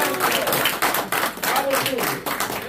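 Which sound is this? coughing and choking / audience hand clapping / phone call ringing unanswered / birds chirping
audience hand clapping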